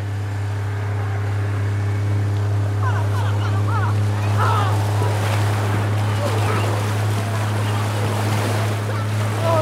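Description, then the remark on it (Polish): The engines of two motorboats carrying divers drone steadily throughout, a low hum mixed with rushing water and wind, while faint voices murmur briefly in the middle. “Dwie łodzie motorowe, plus do tego nurkowie.”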